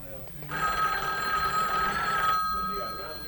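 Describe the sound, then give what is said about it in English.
A telephone bell rings in one sustained, bright trilling burst of about two seconds, fairly loud, then stops, with faint voices murmuring in the background. “come answer the phone.”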